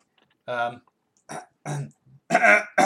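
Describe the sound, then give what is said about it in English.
A voice makes four short, gravelly throat-clearing noises with brief pauses between them, a rough vocal attempt at imitating an F1 racing car engine, ending in a louder, longer rasp. “That was just you clearing your throat.”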